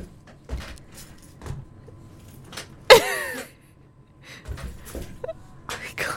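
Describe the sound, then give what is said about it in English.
A sharp mechanical clack followed by a brief squeaky, creaking whine as the height lever on the side of a chair is pulled to make it lower, set against quiet background noise with a few small shuffles and clicks. “This chair is too tall. If you can make it lower, right there on the side.”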